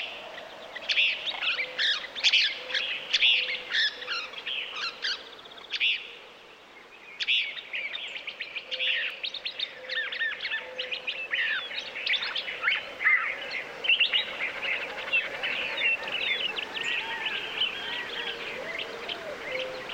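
A busy chorus of desert birds chirping and trilling nonstop at dawn, many overlapping calls, with a steady low background hush and no voices; recorded by Bernie Krause on Gray Ranch, a Nature Conservancy easement in the panhandle of New Mexico.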